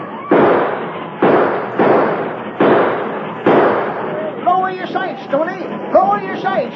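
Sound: gunfire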